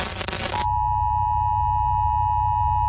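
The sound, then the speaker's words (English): A brief burst of harsh static gives way to a steady, unbroken emergency broadcast alert tone, high and piercing, holding at one pitch over a low rumbling hum, with no voices, from the Just Another Channel trailer for January 6th, 2021. “This is an emergency broadcast.”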